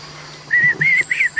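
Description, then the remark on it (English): Three high, whistle-like turkey calls made by a person on a glass friction call, fall turkey calling, sound in quick succession, clear, with no talking. “And then that's me on the glass call. This is fall calling.”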